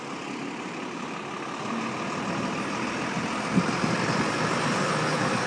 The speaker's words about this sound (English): Oh yeah, truck, pure Galway, isn't it? The City Bin Company. Recycling shite for 40 years.